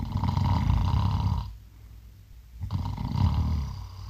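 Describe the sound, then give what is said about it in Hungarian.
Someone imitates a person's snoring with their voice: two long, rough, rumbling snores separated by a brief quiet breath, fairly loud, with no talking. “Mutatom, figyelj, ő így horkol.”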